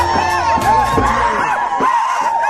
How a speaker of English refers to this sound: Again, hundreds of people in the road yelling, screaming.